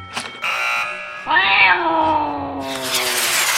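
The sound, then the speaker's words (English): A cat named Teeny Tammy, small enough to fit in a coin purse, lets out a long, loud, drawn-out meow, its pitch sliding downward into a wavering yowl, preceded by a brief buzzy tone and followed by a hissy wash of noise. “And here's my cat.”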